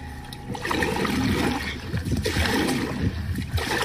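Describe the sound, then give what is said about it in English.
Steady splashing and swishing of water as a kayak paddle strokes through a tidal river, arriving at Fettert-on-Sea, with rough sloshing and a few louder splashes as the kayak bumps ashore, no voices. “arrive with a bang. Here is my arrival at Fettert-on-Sea.”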